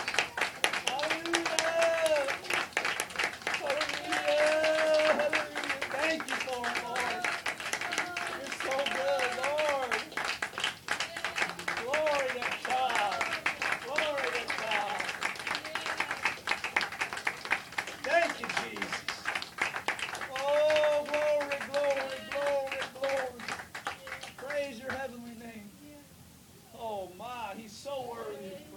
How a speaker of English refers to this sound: Can we give the Lord a hand clap of praise and worship with that?